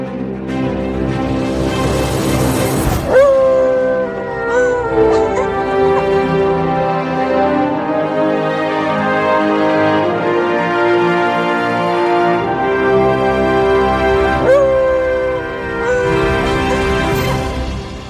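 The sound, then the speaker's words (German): A bright, upbeat theme tune with sustained melodic tones plays steadily and loudly, with swelling cymbal-like flourishes near the start and again toward the end. No talking is heard. “Vorher gibt es wie immer die Hund. Die Hymne.”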